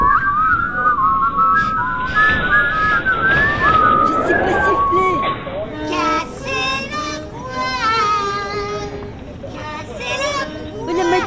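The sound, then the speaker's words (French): People in a metro casually whistle a wandering tune for several seconds while looking up in the air, over a murmur of background noise, then voices take over with animated talking. “On regarde en l'air et on siffle.”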